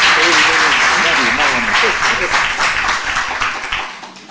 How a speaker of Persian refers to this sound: من میخوام که ایشون رو تشویق بفرمایید.